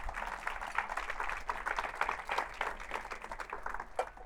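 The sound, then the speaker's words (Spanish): An audience at a church service gives the Lord a loud round of applause, clapping steadily for several seconds. It is a dense, sustained patter of many hands clapping at once, with faint voices mixed into the crowd noise. “Si alguien lo cree, da un fuerte aplauso al Señor.”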